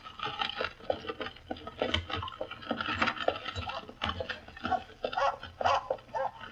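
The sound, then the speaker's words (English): A dog, Pip, snarls and growls in rough, rapid bursts, fairly loud, as it tries to bite a woman in a carriage, with scuffling and snapping sounds mixed in as it lunges. No one speaks. “By Jove, he's snarling. He's trying to bite the woman.”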